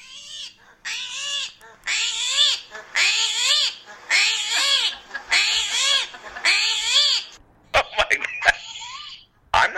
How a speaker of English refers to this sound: Did you know that the screaming hairy armadillo screams when it gets scared? I absolutely love the animal pick of the week, which is fantastic. This is the screaming hairy armadillo. Do you want to hear it?